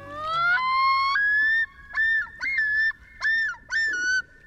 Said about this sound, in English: One of the most evocative bird voices belongs not to a delicate songbird, but to a sleek, black-and-white water bird. That's the haunting yodel of a male common loon, a sound that echoes across northern lakes where loons nest in summer.